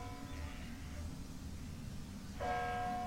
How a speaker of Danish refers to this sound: Alle de steder, hvor der sker noget interessant i podcasten, der er der klokker, kirkeklokker i baggrunden.